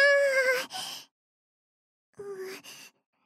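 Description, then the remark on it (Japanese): A voice of someone wearing cat ears imitates a cat's meow twice, two high, wavering mewing calls separated by a short pause, fairly soft, with a breathy tail after each. “なら、お兄、にゃ”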